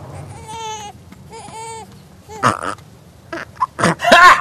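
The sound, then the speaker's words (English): An infant simulator doll lets out two short, wavering electronic cries, followed by a few rough, noisy burp sounds, fairly loud with no talking. “Burping like a boss?”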